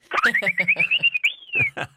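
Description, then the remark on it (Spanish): A little whistle sound effect known as the "silbatín": a thin tone slides upward and holds steady, then swoops up and back down, over a quick run of rhythmic, buzzy pulses. “El famoso silbatín que bautizó nuestra compañera Ale Nájar.”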